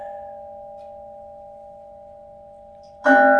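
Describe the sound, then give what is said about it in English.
A mindfulness bell's steady, pure tone hangs and slowly fades, then a second loud strike rings out with a bright metallic attack and rich overtones. No voices are heard. “So I'm going to invite my beloved brother Raul to ring the sacred bell of mindfulness.”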